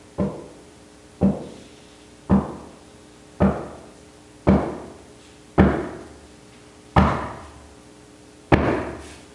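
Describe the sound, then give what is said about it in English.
Nine heavy, evenly spaced knocks on a wooden door, about one per second, each loud and followed by a booming, echoing decay. No voices. “When he passed by, he began to knock.”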